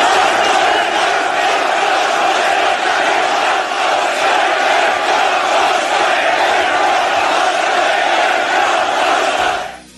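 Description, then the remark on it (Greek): A huge crowd in Turkey roars and cheers continuously at a political rally for Ekrem İmamoğlu, a dense, loud wall of voices with shouted chanting that holds steady for the full length before cutting off abruptly. “Ναι, και ας πάρουμε μια ηχητική γεύση από το τι έγινε. Πραγματική αποθέωση για τον Ιμάμογλου.”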